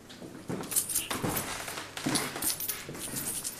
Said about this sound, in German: Ist es ein Zweivierteltakt? Ist es ein Dreivierteltakt? Oder ist es ein Viervierteltakt? Oder in einem ganz anderen Takt? Und vielleicht erkennt ihr sogar den Tanz, den Dagobert beim Münzenschütteln aufs Parkett legt.